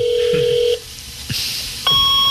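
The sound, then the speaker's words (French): Steady electronic telephone-line tones switch abruptly between pitches, with a bright high whistle, brief clicks and a shrill burst in the middle, like a fax modem dialing and starting its handshake. “Ah oui, le fax.”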